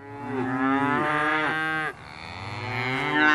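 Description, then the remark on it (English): Dexter cattle moo twice in succession, loud: a long, drawn-out bellow followed by a second rising call, with no one speaking. “In 2 weeks' time, a herd of Dexter cattle will be moved onto the hill and will stay there till March, come rain, hail or snow.”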